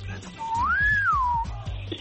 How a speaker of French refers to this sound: Tu as entendu le sifflet, hein? Bien sûr. Au moins la philosophie du coup de sifflet.